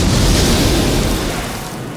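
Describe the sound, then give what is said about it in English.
A balloon ignites in a deep, roaring explosion that bursts with a heavy low rumble, loud, then slowly fades as fiery crackling continues. “The balloon ignites.”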